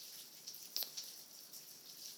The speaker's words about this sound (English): It's wonderful to sit with the sound of the rain. It can take a person very deep.